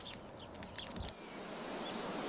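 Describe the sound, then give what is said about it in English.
A steady, broad rushing of wind through trees, a continuous airy whoosh that sounds almost like surf or water, swelling slightly and holding without pause. “Do the trees always make this noise? Always. Whoosh! They sound like water, don't they?”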